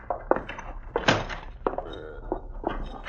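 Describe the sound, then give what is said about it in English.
A back door opens and closes as someone comes in, with a handful of wooden thunks and clunks spread over a few seconds, moderately loud, with no one speaking. “Here he is now, coming in the back door.”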